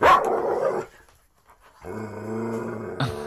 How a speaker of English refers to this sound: We just got a new dog. Listen to this thing bark.